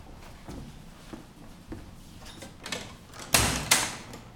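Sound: door being opened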